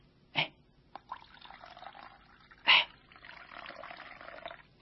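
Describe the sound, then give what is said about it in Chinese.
Jesus pours water steadily into a basin, a continuous splashing stream broken by a couple of sharper splashes, moderately loud, with no voices. “他站起来了，脱去了外衣，又倒水在盆里。”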